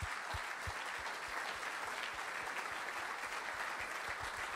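A large church audience at Embrace claps steadily in thanks to departing leadership team members, a dense wash of many hands with no pauses, the applause holding at an even, moderately loud level throughout with no voices.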